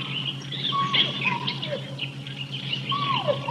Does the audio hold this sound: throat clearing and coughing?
no